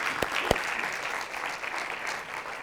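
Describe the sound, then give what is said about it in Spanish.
A church audience claps for the Lord, celebrating the resurrection, steadily throughout, a dense, continuous patter of many hands with a couple of sharper individual claps near the start, and no voices rising above it. “¿Podemos celebrarlo con un aplauso ahora para el Señor?”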